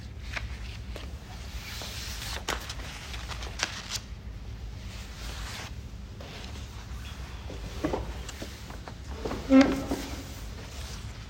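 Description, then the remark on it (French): Papers being rustled and shuffled to find a quotation, with dry crinkling and flipping sounds scattered throughout and a brief louder handling noise near the end; no talking. “Et là, j'ai une citation que je vais retrouver dans mes papiers.”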